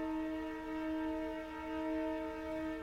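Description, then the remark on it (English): A train horn sounds in one long, steady blast, its rich chord holding loud and unbroken with slight swells in volume, over a low rumble of the passing train. No one speaks. “And here comes the train again.”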